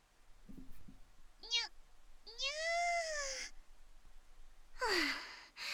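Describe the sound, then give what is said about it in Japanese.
A voice imitates a cat's meow in a few drawn-out, rising and falling calls, a short one first, then a long wavering mew and a final breathy one, clear. “猫が猫のふりしてどうするのよ。”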